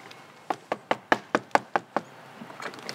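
Eight sharp knocks on the front door of a small two-story home, in wet, drizzly weather, in a quick, slightly uneven rhythm, each one crisp and fairly loud, followed by a quiet pause with faint rustling.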